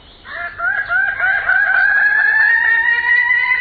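Male Raggiana birds-of-paradise give loud crowing calls in the lowland forest of New Guinea in the early morning. A sustained, slightly rising cry swells in after a brief quiet start and carries on strongly to the end, with no talking.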